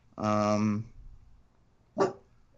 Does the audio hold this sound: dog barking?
yes